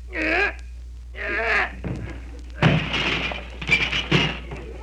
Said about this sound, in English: I guess we can get through the door all right. Just help me push it a little. Okay.